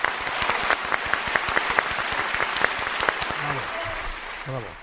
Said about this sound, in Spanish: el aplauso del día para... Total, para el Festival de Almagro